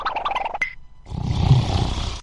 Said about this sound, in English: Snore. Sometimes I'll play the snore.